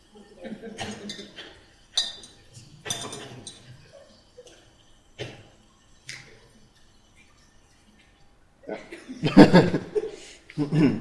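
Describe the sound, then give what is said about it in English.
A few sharp, light glass clinks ring out as a small watch glass is set down to cover a container whose contents spit out lithium hydroxide, with a voice talking and rustling handling sounds near the end. “Usually bring a watch glass to cover it up with.”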